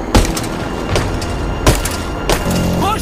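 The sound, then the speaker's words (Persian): The driver strikes his pickup truck's front windshield with a hammer four times at uneven intervals, each blow a loud, sharp crunch of breaking glass over a steady rumbling background, with no voices. “مرتضا با چکش شیشه جلو رو میشکنه.”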